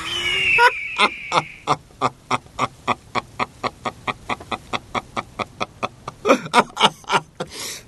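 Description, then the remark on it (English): An eagle screams in a long, rapid series of sharp, cackling calls that rise and fall like laughter, loud, with no talking. “The eagle screamed with laughter.”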